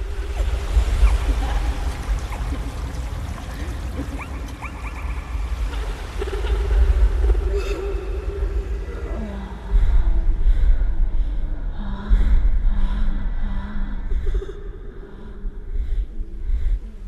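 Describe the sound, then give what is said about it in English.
Underwater raindrops recorded by hydrophone during a sudden summer thunderstorm, and bubbles recorded under the ocean by hydrophones: a dense fizzing crackle over a deep rumble, later joined by pulsing bubbly tones that swell and break off in bursts, loud and continuous without voices. “raindrops recorded underwater during a sudden summer thunderstorm, and bubbles recorded under the ocean by hydrophones.”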